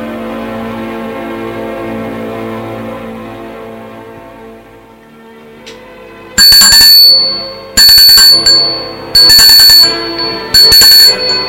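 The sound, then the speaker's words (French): A doorbell rings in four loud, shrill, buzzing bursts, each about a second long with short gaps between, after a soft, steady tonal hum fades out. “On sonne à la porte.”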